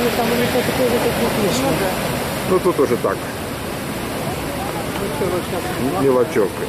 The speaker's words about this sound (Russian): Пошла волна, они пошла. Хорошо. Ну. И вон там тоже сзади, смотри. На втором плане вон там тоже пошла. Да. Когда, друзья, попадешь в хорошее место, то и волна идет не переставая.